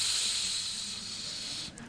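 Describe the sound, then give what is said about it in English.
A voice imitates a snake with a steady, sustained hiss lasting about two seconds, fairly loud, trailing off abruptly at the end. “Snakes.”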